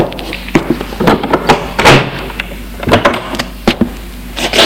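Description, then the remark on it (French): A door being opened: a series of sharp clicks and knocks from the latch and handle, with a brief rushing scrape in the middle, then a few more rattling taps. “Il ouvre la porte.”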